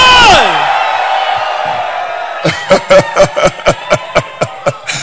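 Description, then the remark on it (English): An audience at a church service erupts in loud screams and cheers, opening with a high falling whoop, then a sustained roar that gives way to steady rhythmic clapping, about a dozen beats. “Somebody scream.”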